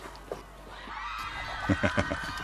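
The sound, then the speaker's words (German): A crowd of many voices screaming in panic, a dense wall of overlapping high-pitched cries that swells after a quiet start, with a few louder rhythmic bursts near the end. “Das ist ein Volk in Panik.”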